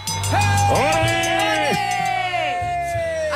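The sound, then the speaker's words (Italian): Two voices, a radio contest winner and another caller, let out a loud, sustained shout together on cue, rising and falling in pitch for about three seconds, over a steady low hum. “E allora fateci un urlo, tutti e due, dai!”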